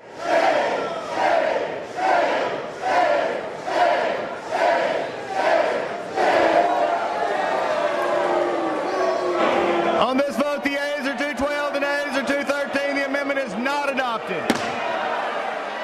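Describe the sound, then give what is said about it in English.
A crowd of lawmakers on the floor of the House of Representatives booing and hissing over an amendment that would have removed an anti-discrimination provision protecting LGBT people, starting as rhythmic, pulsing jeers and swelling into a loud, sustained roar of boos mixed with harsh, breathy hissing before cutting off abruptly. “The boos and hissing comes from lawmakers who weren't happy about an amendment that would have removed an anti-discrimination provision that was intended to protect members of the LGBT”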